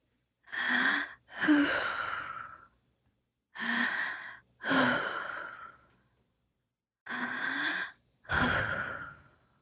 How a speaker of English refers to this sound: Like the sound of someone gently blowing on your ears. Like this.